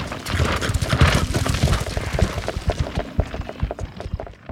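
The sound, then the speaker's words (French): A herd of buffalo runs past, a loud, dense drumming of many hooves pounding in overlapping rapid beats, steady throughout and thinning slightly toward the end. No one speaks. “Un troupeau de buffles arrive en courant. Ils font beaucoup de bruit.”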